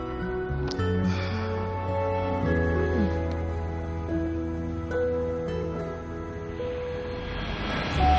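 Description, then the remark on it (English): An airplane taking off, its engines a loud, steady, droning roar with humming tones, swelling louder toward the end. No one speaks. “An airplane takes off.”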